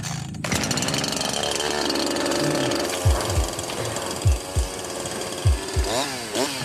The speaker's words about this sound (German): verdecke ihm die Augen und Mike setzt die Kettensäge an